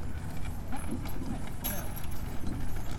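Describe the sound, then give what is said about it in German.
Hooves of an ox team clop steadily as an old farm wagon rolls and rumbles along, with a low, continuous grinding underneath and faint voices in the background. “Da kommt das Gespann mit den Bullen, also oder den Ochsen.”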